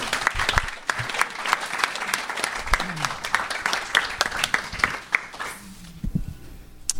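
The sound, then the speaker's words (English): An audience applauds the speakers at a Debtors Anonymous meeting, a dense, steady patter of many hands clapping for several seconds before thinning out and tapering off near the end. “Give our speakers another big round of applause.”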